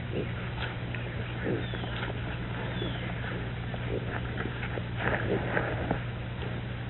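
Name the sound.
pig grunting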